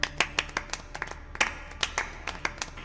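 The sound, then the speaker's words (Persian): A small audience claps to encourage someone, in sparse, uneven bursts, roughly a dozen sharp hand claps over a few seconds, crisp and moderately loud with no voices over them. “تشویقش کنید، بجنبید.”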